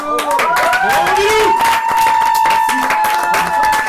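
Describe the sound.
An audience applauds in a steady, dense wash of clapping that lasts the whole stretch, with whoops and cheering voices rising above it.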